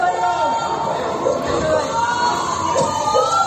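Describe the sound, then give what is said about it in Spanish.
A crowd of neighbors in the Isla Chica district of Huelva shouts "fire" in alarm before dawn, at 7:45 am, as dense white smoke pours from a house, a dense, continuous clamor of overlapping voices, with faint wavering sirens running underneath. “Al grito de fuego, el barrio se despierta asustado, con ese sonido también de las sirenas de fondo.”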